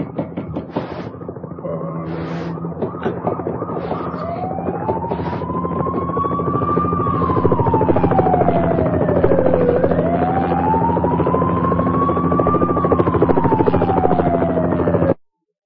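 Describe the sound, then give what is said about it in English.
A helicopter's loud rotor chop and engine drone fill the scene as it lifts off from a hotel roof, while a police siren rises and falls in long wails over it, steady throughout. “Interpol just missed his helicopter on the roof of the Hotel Palmer Hotel.”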